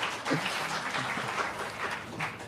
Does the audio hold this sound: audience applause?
yes